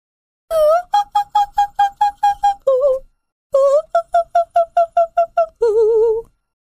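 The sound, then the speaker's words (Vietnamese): A woman sings wordlessly in an opera style in rapid, evenly spaced staccato notes, two quick runs of bright, high trills imitating a nightingale, each run ending on a longer held note, loud. “những câu hát không lời mô phỏng tiếng nữ hoàng đêm tối, tiếng chim họa mi, tiếng ban mai, tiếng lòng bão tố.”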